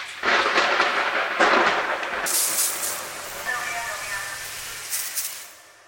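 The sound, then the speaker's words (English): A rolling crack of thunder, a sound effect played in a grocery store produce section to signal that the vegetable misters are about to turn on; loud, with broad crackling rumble that swells, then shifts into a hissing wash before fading out near the end. “One time in the grocery store produce section, the lights started blinking, and a thunder sound effect played to signal that the vegetable misters were about to turn on.”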